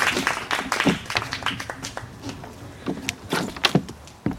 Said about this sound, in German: Applaus.